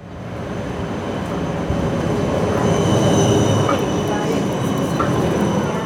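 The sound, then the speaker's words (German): A tram rolls along the rails in Ulm, a steady, loud rumble with thin, high metallic whines and squeals running over it throughout. No one speaks. “Längere Straßenbahnen, mehr Grün, neue Brücken und deswegen natürlich auch ganz viele Baustellen.”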